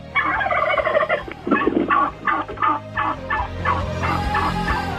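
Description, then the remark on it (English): A turkey gobbles in a loud, rapid, warbling burst, followed by a run of shorter throaty gobbling pulses that fade into a low steady rumble. “Wisconsin turkey producers love Issues Etc.”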